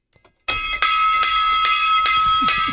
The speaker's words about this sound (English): Why are you banging the gong?